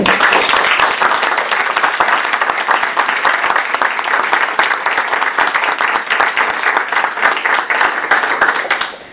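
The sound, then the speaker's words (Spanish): Sustained applause from an audience as a small tribute: dense, steady clapping from many hands at an even loudness for about nine seconds, with no voices, tapering slightly at the very end. “Invito a todos a dar un aplauso.”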